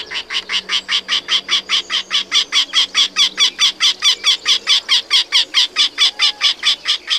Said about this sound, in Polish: Jest jeszcze jeden gatunek, o którego nie wymieniłem. To jest krętogłów, to jest jedyny dzięcioł, który odlatuje, który migruje.